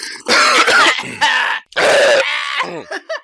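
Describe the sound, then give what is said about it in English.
A loud fit of harsh coughing after a slurp of a drink, in several rough bursts, mixed with strained, groaning vocal sounds and short raspy gasps near the end. “Having a slurp. Coughs out.”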